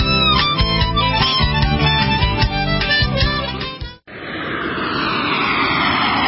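Music plays for a few seconds, then cuts to a loud, steady engine roar of a propeller airplane passing overhead, its pitch slowly falling as it flies by.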